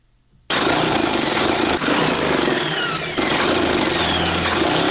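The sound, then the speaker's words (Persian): A tailor's sewing machine in Kabul's fifth district starts up after a brief silence and runs in a loud, steady mechanical whir, with two slight hitches in its rhythm along the way, as Eid clothes are stitched for a customer. “با ماشین خیاطیش در حال دوختن لباس عیدی برای یکی از مشتریانش در شهر کابل است.”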